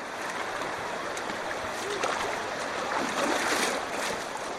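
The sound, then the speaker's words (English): Steady ocean surf washes and hisses at Huntington Beach, California, a dense continuous roar of breaking waves that swells slightly partway through, with no distinct voices. “I just want to get wet and get some waves.”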